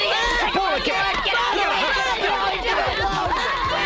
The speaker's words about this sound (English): The place went crazy. Everybody started shouting and screaming and running over chairs and tables for the nearest exit.